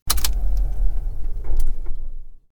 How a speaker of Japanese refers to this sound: あそこのパーキングエリアでいいよね。車を駐車場に止めて、と。